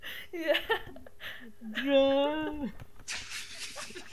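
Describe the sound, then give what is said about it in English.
A voice mimics the dramatic piano sting heard when something happens on a soap opera: a few quick sung tones, then a long, wavering held note that bends down and cuts off, followed by a breathy hiss. “What we need, also, is one of those dramatic piano noises, like when something happens on a soap opera, goes, and then, like...”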